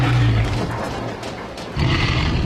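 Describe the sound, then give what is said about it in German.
A deep, rumbling roar like a monster or dinosaur, loud and sustained with a low growling tone, dipping briefly in the middle before surging again, with no talking. “Haben sie wirklich solche gruseligen Geräusche gemacht?”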